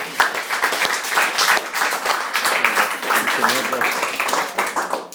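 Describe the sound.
A room full of people applauds steadily for several seconds, a dense, continuous patter of many hands clapping at once, fairly close, with faint voices mixed in.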